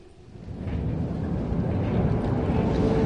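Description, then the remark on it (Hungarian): A late tram rumbles by in the distance, a low, steady roar that swells over the first half second and then holds, with no voices over it. “A megkésett villamos távoli zaja, mintha egy pillanatra erőt adott volna a megtámadott férfinak.”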